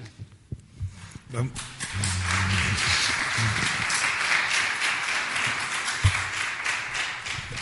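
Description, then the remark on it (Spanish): Audience applause: a few scattered claps grow quickly into a dense, steady wash of many hands clapping that holds at an even level to the end, with faint murmuring voices beneath. “Por los aplausos deduzco que hay aquí cantidad de funcionarios, a los que admiro y respeto, por cierto.”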